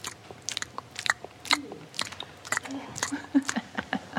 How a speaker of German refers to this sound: im Team-Meeting mag Schmatzgeräusche mit leerem Mund nicht. Also ja, das hier.